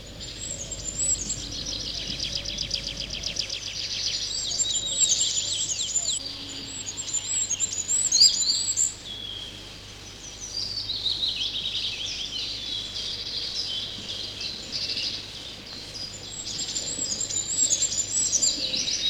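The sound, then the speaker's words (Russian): Thin, very high-pitched song of a goldcrest, the smallest local bird, repeats in short trilling phrases from the top of an old spruce, faint, over a steady outdoor background hum with other soft chirps. “Прислушайтесь, какой нежный и тонкий свист. На вершине старой ели поет самая маленькая из наших птиц – королек.”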